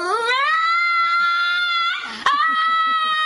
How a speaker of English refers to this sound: Or maybe your dog sounds something like a woman wailing.